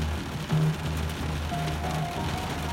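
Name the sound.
rain falling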